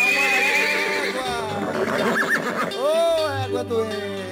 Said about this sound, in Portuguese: Isso é um cavalo. É uma égua doente.